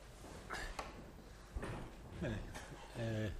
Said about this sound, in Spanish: Ponemos otra silla. Pongo otra silla para que se sienta mejor.